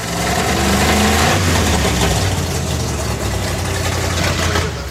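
A loud car engine runs with no exhaust fitted, a raw, throaty rumble with rough mechanical rattle that holds steady for several seconds.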